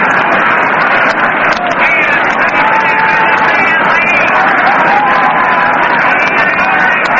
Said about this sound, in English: Hear that crowd still murmuring over that play of Bartell.